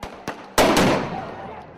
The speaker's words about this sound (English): A protester films pepper balls fired toward the crowd. They can be heard striking the ground. Keep moving. They got pepper balls. Keep moving.